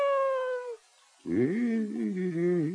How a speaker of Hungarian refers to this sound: Na, gyere. Gyere csak, kis cica.